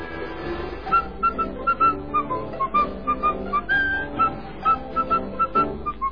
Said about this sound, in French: Et sa besogne achevée, sans savoir ce qu'il a fait, il s'est mis à siffler sur le chemin de la maison.